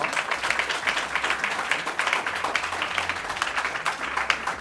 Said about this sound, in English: I would like to take this opportunity to thank our panelists, Ed Vasey, who's not here, but we can applaud him in absentia.